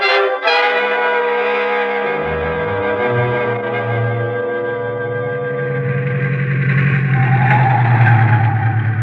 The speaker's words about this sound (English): Some jalopsy, huh, Mr. X? Drives like an aeroplane. No wonder. You haven't had more than one wheel on the road since we left Nogales.